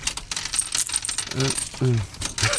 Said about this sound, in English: No, you know the machines that you get in the arcade where you put 2p in and they fall off the edge? The slider one. Yeah. And you've got a miniature version of that. Turn it on. And just put the coins in.